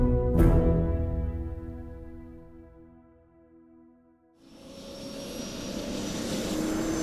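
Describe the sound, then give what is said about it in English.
A helicopter engine starts with a sharp burst and hums in a steady, droning whine that slowly fades, then swells into a loud, rushing roar. No voices. “On to the chopper! And be quick about it!”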